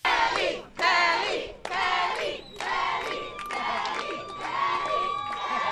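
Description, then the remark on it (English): A loud crowd of neighbours outdoors, gathered outside the home of Kelly's parents after the fight, cheers and sings together, the noise swelling in bursts with brief dips early on before settling into a steady, continuous roar of voices. “neighbours gathered outside the home of Kelly's parents.”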